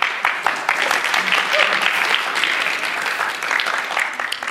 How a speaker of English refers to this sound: Excellent. Thank you very much. Let's give him a clap.